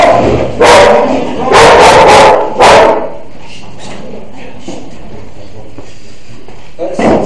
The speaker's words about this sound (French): Pour les propriétaires de chiens, si on peut appeler ça propriétaire, mais ça fait deux jours qu'on a souvent des chiens dans tous les sens qui se gueulent dessus, qui se battent, c'est insupportable.